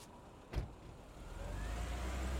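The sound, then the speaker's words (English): A short thump like a car door closing, then a taxi cab's engine rises into a steady low rumble as it pulls away with a passenger inside, moderately loud, with no voices. “The cab drives off.”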